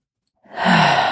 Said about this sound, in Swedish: Om man måste andas, tar man ett djupt andetag in och håller på inandning.